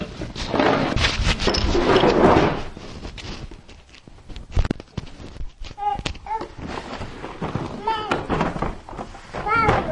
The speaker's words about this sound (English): It's a door, yep. Oh, you want another door? I think the door is in here.